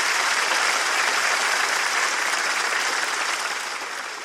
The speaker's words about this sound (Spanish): Un aplauso para mi amigo el pollero. ¡Aplauso fuerte para mi amigo el pollero!